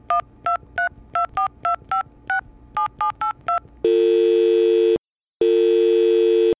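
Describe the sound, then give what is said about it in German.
A phone number is punched in to call a driver offering a ride from Augsburg to Cologne, with a quick run of about eleven short touch-tone beeps in small groups, followed by a steady loud tone that cuts off briefly and resumes. “Hier ist eine Telefonnummer.”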